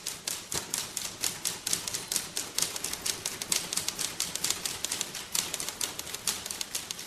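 Dense, rapid clacking of many typewriters at once in a typewriter orchestra, a steady irregular patter of sharp key strikes layered together, moderately loud, with no voices.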